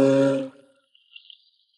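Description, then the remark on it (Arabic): A loud, deep, droning call of a small whale sounds once for about half a second, then cuts off, leaving only a faint, thin high-pitched trill afterward. No one speaks. “هل عثرتم على عملاق البحر؟ عثرنا على حوت.”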